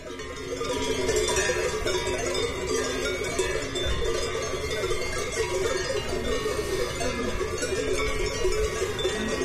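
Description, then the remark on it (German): Many cowbells clang and jingle continuously in an irregular, overlapping jumble of bright metallic tones, steady and fairly loud throughout, with no voices. “Die Glocken deuten es jetzt hier am Ende schon mal an.”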